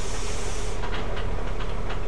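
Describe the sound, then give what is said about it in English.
A loud, sustained pneumatic hiss from a bus door opening in Worcester, a steady rush of air with a few brief puffs near the end over a low engine rumble. No one speaks. “It's really proper hissy bus door sound, isn't it?”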